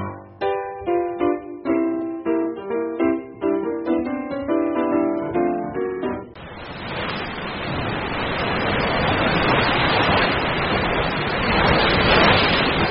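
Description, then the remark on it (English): A short bright musical phrase gives way to a steady, loud rush of ocean surf at a beach, waves washing continuously onto the shore for the remaining seconds with no voices. “I'm going to catch some waves.”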